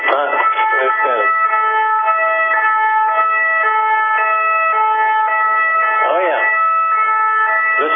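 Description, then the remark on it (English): A French police car siren in Paris wails steadily, alternating between two tones in a repeating hi-lo pattern, loud throughout, with a voice briefly audible near the start and again toward the end. “Is that a French police car?”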